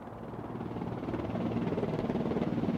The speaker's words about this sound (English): the peace was shattered by a big red and white Coast Guard helicopter that appeared in the skies above them.